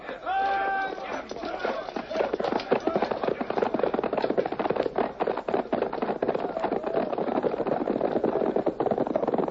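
Horses gallop away in a dense, rapid clatter of hooves that stays loud and busy throughout, with a brief high call at the very start.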